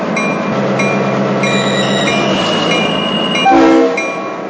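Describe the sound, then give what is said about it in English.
A train rolls along with a steady, heavy rumble and thin, high squealing tones over it as it pulls in to stop past grain silos, then a brief louder horn blast sounds near the end as it slows. “Stop her up here, past the grain silos.”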